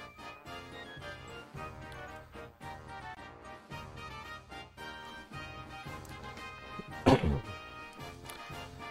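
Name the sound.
dog barking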